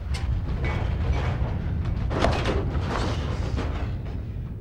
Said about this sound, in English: The room begins to tremble. Furniture, fixtures, and fittings shake violently. An office window shatters. Terrified, the four men duck, weave, cling on for dear life.